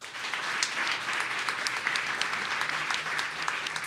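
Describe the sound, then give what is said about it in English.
An audience at a panel event applauds steadily for about four seconds in answer to being asked whether the cost of homeowners insurance worries them, a dense wash of many hands clapping at once with no pauses, fairly loud and even throughout, with a faint murmur of voices underneath. “Clap if the cost of homeowners insurance worries you.”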